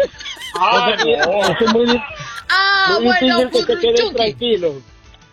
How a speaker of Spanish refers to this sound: se escuchó un grito al fondo, José, y nos preocupamos por usted. Bueno, parcero, esos son unos bebés que cargo aquí